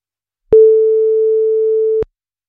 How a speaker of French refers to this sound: Et quatrième sonnerie, c'est raté.